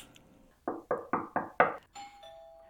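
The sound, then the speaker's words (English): A doorbell rings at the door: five quick, loud strikes in a steady rhythm, followed by a sustained ringing tone that hangs briefly before fading, with no one speaking. “Is that the door? Are you going to get it?”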